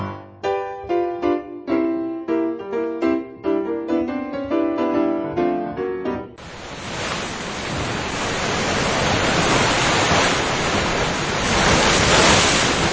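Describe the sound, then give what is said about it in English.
A bright plucked-string tune plays for about six seconds, then gives way to a loud, steady rush of ocean waves breaking on a beach that continues to the end, with no talking. “I'm going to catch some waves.”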